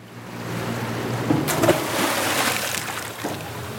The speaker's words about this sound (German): Der Anker klatscht ins flache Wasser vor einem weiten, menschenleeren Sandstrand.